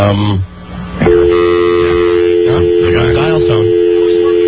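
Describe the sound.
A steady telephone line tone, heard while the phones are being checked, starts after a brief pause and hums continuously to the end, fairly loud, with muffled voices and shuffling sounds layered over it.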